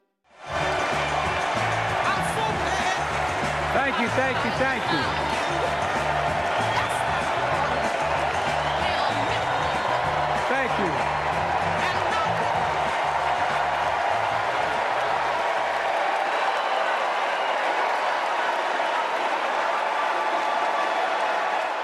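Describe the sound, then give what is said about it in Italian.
A large Democratic convention crowd in Chicago, Illinois, chants "We Love Joe" over and over in a steady, loud rhythm atop a constant roar of cheering, welcoming Joe Biden on stage at the convention's opening; near the end the chant drops away, leaving the crowd noise. “We Love Joe, questo è il canto della folla democratica che a Chicago, in Illinois, ha dato il benvenuto a Joe Biden sul palco in apertura appunto di questa convention”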